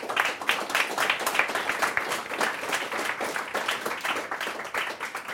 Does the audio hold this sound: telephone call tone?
no